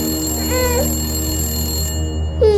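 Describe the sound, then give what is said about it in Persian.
A telephone rings steadily with a bright, sustained metallic tone that cuts off near the end when Khosrow picks it up, while brief high-pitched voice-like chirps sound faintly in the background; the call comes from a prison. “خسرو تلفن رو برمیداره.”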